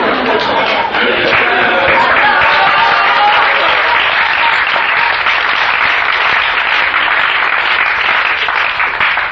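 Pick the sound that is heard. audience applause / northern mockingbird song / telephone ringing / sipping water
audience applause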